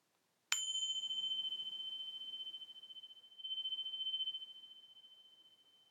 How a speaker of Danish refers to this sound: Meditationen starter, når klokken ringer.